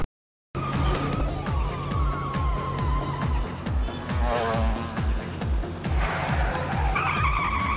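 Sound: car tires skidding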